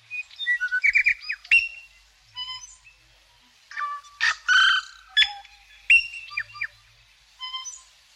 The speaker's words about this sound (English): Tuis are medium-sized, living in forests and suburban trees. They tend to be black with a tuft of white at the throat. And they have a beautiful call that is one of my favourite bird songs. Just for a moment, let's hear the wonderful tui.